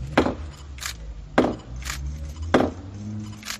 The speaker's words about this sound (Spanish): Pues estos han sido los golpes de rigor que con un martillo de roble adornado con plata y la medalla de la Virgen da Xunqueira ha dado el arzobispo de Santiago, Monseñor Julián Barrio, en las últimas horas para abrir la